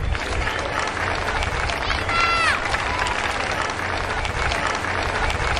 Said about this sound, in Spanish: Don Felipe y doña Leticia han visitado la zona, han agradecido el trabajo de los servicios de emergencias. Dos vecinos les han recibido con aplausos.